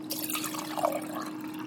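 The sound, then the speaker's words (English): Water pouring steadily into the reservoir of a Keurig coffee maker, the cheapest Keurig machine, a continuous splashing trickle with a faint low hum underneath and no talking. “Okay, so let's get the water into the...”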